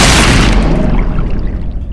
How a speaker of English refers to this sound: You smash into a wall.